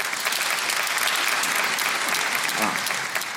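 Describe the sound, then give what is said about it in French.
A crowd in a hall claps steadily to answer who among them is 22 or younger. It is a dense, even wash of applause holding at the same loudness for a few seconds, with no voices rising above it. “Par applaudissement, qui a 22 ans ou moins dans la salle?”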